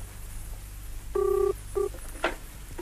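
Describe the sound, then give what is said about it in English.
A telephone ringing tone heard down the line as Paul Temple phones Inspector Eden from the Wordsworth Hotel: a steady electronic burst followed by a shorter one, thin and moderately quiet over low background hum, with no one speaking. “It's ringing now.”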